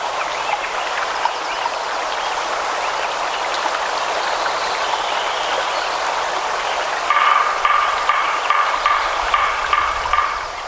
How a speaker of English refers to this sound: 1 year later, after the logging operation was complete, all you can hear is the sound of a stream and a woodpecker.